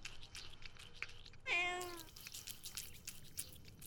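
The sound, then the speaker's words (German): A cat gives one clear, drawn-out meow, surrounded by faint, scattered clicking and smacking noises of a cat eating cat food and warm milk poured into two red plates in a kitchen. No one speaks. “Bevor sie sich selbst Frühstück macht, füllt sie warme Milch und Katzenfutter in zwei rote Teller.”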